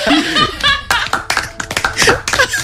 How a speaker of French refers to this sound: Non, non. Faut l'applaudir quand même.